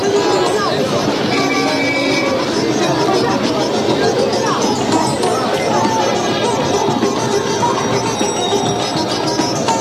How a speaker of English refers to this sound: And throughout the day and well into night, the city's symphony of car horns and chattering crowds shatters the Bengal air.